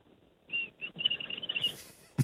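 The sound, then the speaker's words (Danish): A thin, high-pitched inhaled whistle, made by pulling out the lower lip and sucking air inward past the front teeth, sounds in short, breathy bursts that merge into a longer wavering stretch, followed by a hiss of breath and a brief soft thump at the end. “Og du trækker simpelthen ud i din underlæb, og så bruger du dine fortænder, og så suger du indad.”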